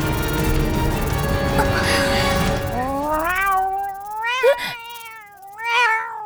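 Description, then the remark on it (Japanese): After a burst of busy noise, a cat that has just killed a cockroach lets out a few long, wavering meows, fairly loud, rising and falling in pitch like a drawn-out yowl. “猫、 あの子。”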